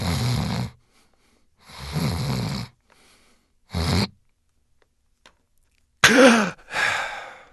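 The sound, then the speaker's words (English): Three rasping snores of a person with sleep apnea, the last one short, give way to nearly two seconds of silence as breathing stops, then a loud, sudden gasping snort to open the clogged airway and a heavy follow-up breath. No one speaks. “People with sleep apnea stop breathing and then gasp so they can open their clogged airway”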